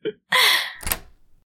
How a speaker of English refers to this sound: Go ahead and make yourself comfortable while I lock the door. I don't really want anyone to rob me and my parents after all.